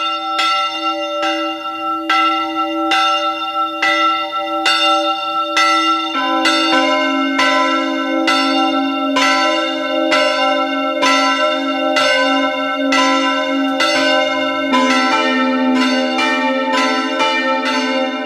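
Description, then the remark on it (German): Several bells of the parish church Maria Heimsuchung in Kogelhof, Oststeiermark, ring together at 12 noon in a steady, continuous peal, their overlapping strikes forming a dense, resonant rhythm with sustained ringing tones. No voices are heard. “Es ist 12 Uhr. Sie hören die Glocken der Pfarrkirche Maria Heimsuchung in Kogelhof in der Oststeiermark.”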